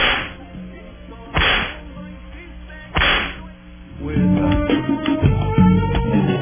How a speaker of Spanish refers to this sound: Vamos a darle los latigazos a todos los que están en ese desmontaje de cosas buenas, pues, y positivas para el país. Van los latigazos.